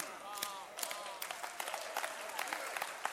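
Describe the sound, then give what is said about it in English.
An audience claps steadily, a dense wash of many hands with sharp individual claps standing out, while a voice carries faintly underneath. “Those who are clapping, you are receiving a certain grace on your life.”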